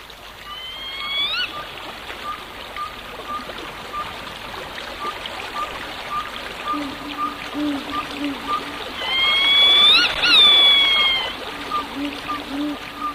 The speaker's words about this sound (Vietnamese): Vẫn yên lặng như tờ, chỉ có tiếng nước róc rách, đôi lúc tiếng róc rách như liệm đi rồi tắt hẳn, nhưng một lát sau lại thấy vẳng lên như để rì rào mãi mãi không thôi.